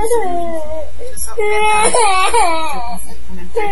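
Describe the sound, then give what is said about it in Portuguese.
A baby cries loudly, a sustained wavering wail broken into several breathless bursts with rising and falling pitch, pausing briefly before starting up again. “É importante, eu acho que como mãe, assim, né, quando a gente escuta um nenê chorando, assim, e tem coisas que a gente não pode fazer, a gente é muito impotente, assim, quando olha o outro bebê e tal.”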